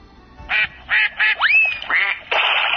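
A duck sound from a children's touch sound book quacks in a series of short, nasal, raspy calls, interrupted by a sliding whistle-like tone, then ends on a longer drawn-out quack. No one speaks.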